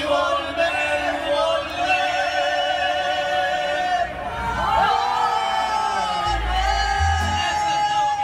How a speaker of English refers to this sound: I couldn't believe the crowd. It was so many people were singing along and dancing and howling.